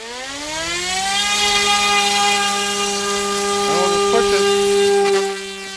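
The small electric motor of a foot-long fixed-wing drone, woken by being shaken three times, whines up in pitch to RPM over the first second, then holds a steady, loud buzzing tone rich in harmonics, with a brief warble near the end before it cuts off.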